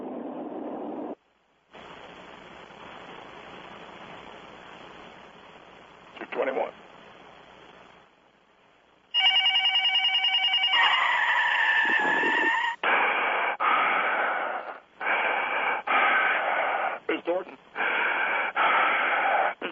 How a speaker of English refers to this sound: All right, what I heard was the phone rings. Yeah, the phone rings.